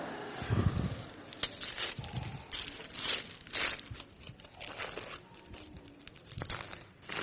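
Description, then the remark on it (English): Crinkly, crunching paper sounds come in irregular bursts as beautiful wrapping paper is pulled and torn open from a wrapped-up cross, with some quiet voices and handling noise mixed in. “Would you help me unwrap it?”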